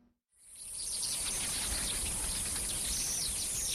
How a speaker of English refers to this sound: On Margaret Roberts' farm, ears are filled by singing birds and buzzing cicadas